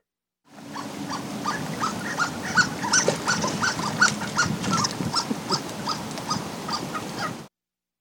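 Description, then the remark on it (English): A duck gives a long run of thin, high, mouse-like squeaks, repeated quickly and steadily for several seconds, over a low background rumble. “Well, people often describe it as mouse-like. Mouse-like squeaking. And that's a duck.”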